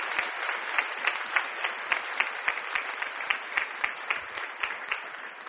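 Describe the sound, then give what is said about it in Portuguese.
An audience applauds the Lord loudly and steadily, a dense wash of many hands clapping with sharp peaks scattered throughout, no voices standing out above it. “Você pode aplaudir bem forte o Senhor?”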